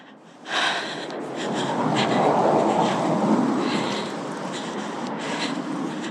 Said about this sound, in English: Maybe it's a light bulb experience, just the hearing of that traffic, the hearing of the car, the focusing in on that.